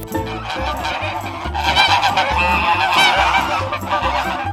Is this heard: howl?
no